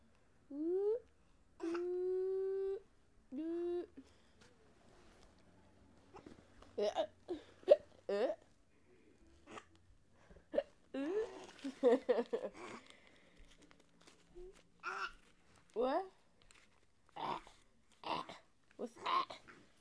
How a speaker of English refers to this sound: Still got hiccups. Here, drink some milk. Drink some milk. That might help.